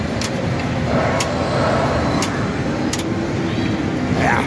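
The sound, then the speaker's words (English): A pinball machine being played using only one flipper on a busy Sunday afternoon: a steady, loud wash of rumbling game noise with a few sharp clacks from the flipper and ball scattered through it. “there was a Game of Thrones game. There it is. I'm gonna try it out here.”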